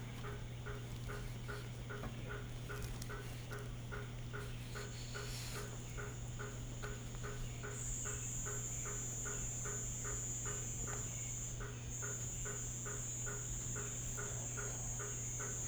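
A hammer frog's knocking call repeats in a steady, quick series of hollow, metallic taps, carrying on evenly against a constant low hum and a thin high whine, with no one speaking.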